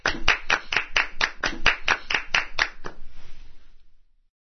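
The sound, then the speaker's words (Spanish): An audience applauds tennis player Rafa Nadal in a steady, even rhythm, roughly a dozen sharp claps over about three seconds, then a brief scatter of softer clapping that fades out. No one speaks. “Un aplauso para el gran Rafa Nadal.”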